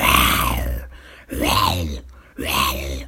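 A voice imitates a lion's roar: three loud, drawn-out, growling groans, each under a second long, separated by short pauses.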